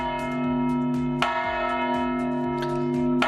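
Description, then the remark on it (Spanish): Large bells ring out in Granada, Spain, in a sustained, resonant peal marking the start of the 529th anniversary celebration of the taking of Granada on Sunday, 2 January; their tones overlap and hum continuously, with fresh strikes at intervals adding bright clangs to the lingering drone. “Son las campanadas con las que me dio comienzo este domingo, el 2 de enero, la celebración del 529 aniversario de la toma de Granada.”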